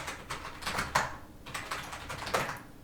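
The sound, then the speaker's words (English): Quick bursts of typing on a computer keyboard, clusters of sharp clicky keystrokes in two uneven runs with a short pause between, moderately quiet, no voices. “Why does it always type backwards when I first start typing?”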